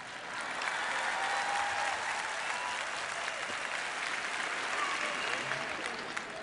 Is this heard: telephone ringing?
no